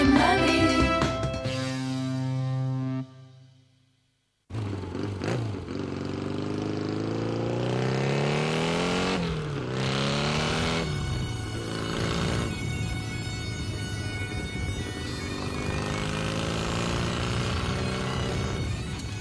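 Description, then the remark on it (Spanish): Loud motorcycle engines roar and rev, their pitch climbing in repeated sweeps; a brief drop to near silence comes early, then the engine noise returns strongly and continues throughout. “Ya rugen los motores porque nuestra siguiente aventura la emprendemos a dos ruedas.”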